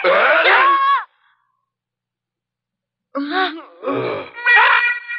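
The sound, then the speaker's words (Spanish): A cat screeches once after its tail is accidentally stepped on: a loud, strained wail lasting about a second that slides downward in pitch, then silence, followed by a burst of excited, shouting voices. “Pero ese grito que oyeron fue de un gato que le pisé la cola sin querer.”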